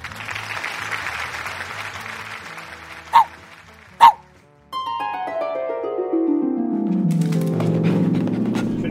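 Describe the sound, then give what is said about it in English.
Two sharp, high yaps from Blanca, a small shaggy white therapy dog, ring out over a hiss of background noise, followed by a swelling musical passage. “And that's Blanca, a little shaggy white dog and the hero of this story.”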